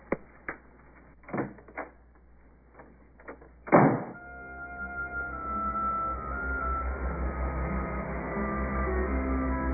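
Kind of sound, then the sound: household object, door being slammed shut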